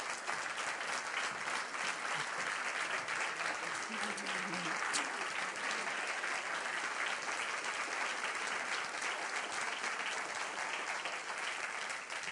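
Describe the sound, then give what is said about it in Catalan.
Steady, sustained applause from an audience at the Liceu for soprano Carolina Fajardo of Tarragona as she is introduced, a dense wash of many hands clapping at an even loudness throughout, with a brief murmur of voices underneath. “Us vull presentar a la soprano Carolina Fajardo, de Tarragona, que volem agrair amb aquest aplaudiment.”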